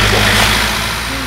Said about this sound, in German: Der Wagen kommt direkt auf uns zu.